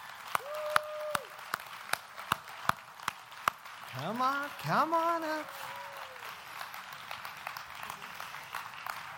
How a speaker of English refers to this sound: These are four individuals who have got their golden eagle in Royal Rangers. Come on up, guys. Let's give them a round of applause as they come up.